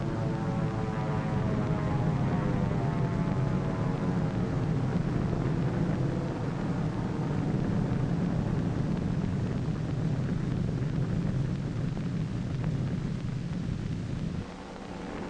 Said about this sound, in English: Here is one of the drone airplanes flying over the target fleet after the blast.